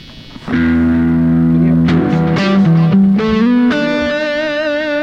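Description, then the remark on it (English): A Fender electric guitar played with a clean amplified tone, picking a short run of ringing single notes that sustain and overlap, fairly loud with no voices. “Clear sound, like a twin reverb.”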